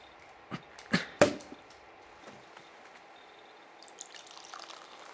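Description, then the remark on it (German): A bottle of sparkling wine (Sekt) is opened with a few sharp bursts and a pop, followed by a soft fizzing hiss as the wine is poured into glasses, with no one talking. “Magst du die Flasche aufmachen?”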